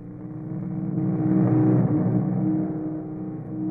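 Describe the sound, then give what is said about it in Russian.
Several engines drone steadily as a whole squad of motorcycles rolls past, the rumble swelling to a peak midway and easing off again, with no voices heard. “Целый отряд. В мотоциклах.”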